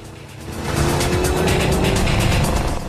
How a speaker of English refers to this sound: The smart Dodge station wagon kicks up a trail of dust. Think it's a company car. The brown car skids and is enveloped in dust as Kathy bumps along sunny tracks.